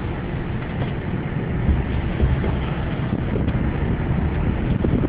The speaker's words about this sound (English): I can't hear me because of the wind out there. So we'll pull it in here behind the dirty window glass.